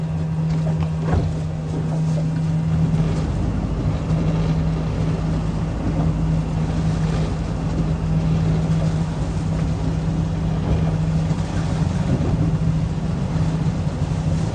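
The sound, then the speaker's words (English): A boat motor drones steadily and loudly for the whole stretch, with a low humming engine tone over churning water and wind noise as the fishing boat turns around on the water. “But we got to turn the boat around, okay?”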